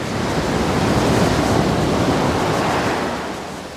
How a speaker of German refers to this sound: Das ist eine Welle. Das Tosen der Meereswellen, die an die Küste schlagen. Ich habe es so ein bisschen blumig formuliert.